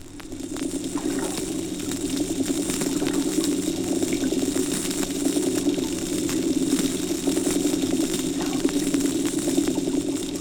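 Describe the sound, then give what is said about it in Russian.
Underwater recording near Pitsunda of fish drumming in short drum rolls, a dense low rumbling drone, overlaid with constant bright crackling and popping from snapping shrimp (Alpheus). Continuous and fairly loud throughout, with no voices. “Барабанные сигналы рыб слышны на фоне звонких потрескиваний алфеусов.”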